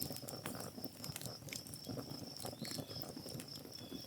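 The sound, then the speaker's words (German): A campfire crackles steadily, with dense irregular pops and snaps over a low rumble, while a thin, continuous insect-like chirp runs high above throughout. “Und jetzt möchte ich dich einladen, genau diesen Moment, noch genau so einen Moment hier am Lagerfeuer mit uns allen zu genießen.”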